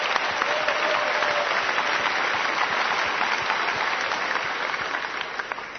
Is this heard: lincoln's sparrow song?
no